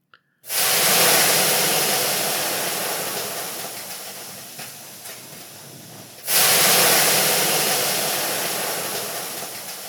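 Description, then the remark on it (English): Loud steam hissing in a Russian banya (steam bath) in two long bursts: a strong blast that slowly fades over several seconds, then a second sudden surge of hiss. No one speaks. “It would later come out that the plot may have been hatched in a steam bath, which is not shocking, of course.”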